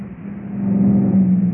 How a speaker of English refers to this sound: A truck drove through that one.